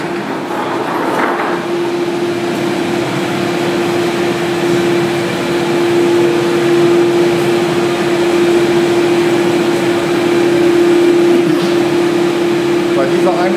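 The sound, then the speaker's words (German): A cremation furnace in the cremation hall of a crematorium roars loudly and without pause, a dense mechanical rush carrying a steady low-mid hum that holds at the same pitch for the whole stretch. “Wir gehen nun weiter quasi in die Einäscherungshalle wieder rein und das wird richtig laut.”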